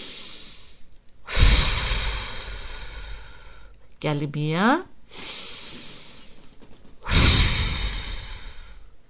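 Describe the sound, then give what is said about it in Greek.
Three loud, forceful breaths blown out hard in a steady rhythm during a breathing exercise, after breathing in through the nose, each a rushing burst of air lasting a second or so, with a brief spoken phrase between the second and third. “Εκπνοή. Φυσήξτε δυνατά. Ας ακουστεί κιόλας, ξέρετε.”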